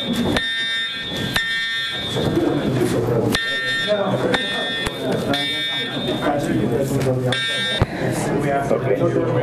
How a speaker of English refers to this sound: We just had a fire alarm.